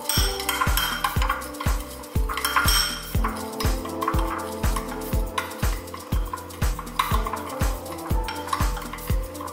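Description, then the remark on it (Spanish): A spoon briskly stirs unsweetened cacao, coconut oil and stevia in a cup, making a steady run of quick, evenly spaced clinks and soft knocks against the sides for several seconds, with no talking. “Mezclamos.”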